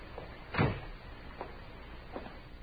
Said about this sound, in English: You men stay outside and close that door.